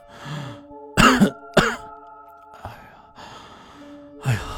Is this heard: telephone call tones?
no